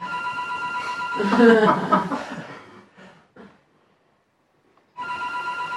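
A telephone rings in a steady, fairly loud electronic burst, stops while someone briefly laughs and murmurs, then rings again after a short silence.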